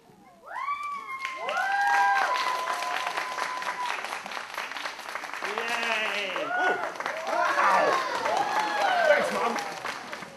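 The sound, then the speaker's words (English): A circus audience breaks into loud, sustained applause for a performer juggling on a unicycle, dense clapping running steadily for about ten seconds, mixed with shrill whistles and scattered cheering voices rising and falling over it. “Clap quick, this won't last long.”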